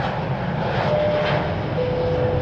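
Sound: airplane engine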